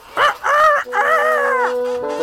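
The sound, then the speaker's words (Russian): Farmyard poultry calling in a large yard where the birds walk about, a rooster-like crow followed by drawn-out, harmonic squawks, loud and continuous for about two seconds with no talking. “Тут большой двор, и по нему птицы гуляют.”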